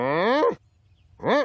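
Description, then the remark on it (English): A human voice does a loud cow moo impression: a long drawn-out moo, a short pause of silence, then a second, shorter moo that rises and falls in pitch. “I love the cow there. yeah. Using human voice noises, but still, you know, it's okay.”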